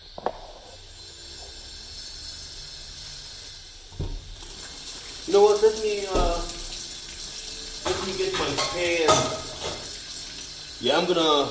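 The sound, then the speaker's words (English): Tap water runs steadily into a pot with a constant hissing rush, a single dull knock partway through, while someone talks intermittently over the flowing water; the pot is being filled to go on the stove for cooking chicken. “I'm gonna get some water going, put it up on the stove so I can take the chicken directly from here, put it onto the stove.”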